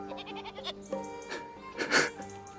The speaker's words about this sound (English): There are a few goats grazing by the ruin as if nothing has happened.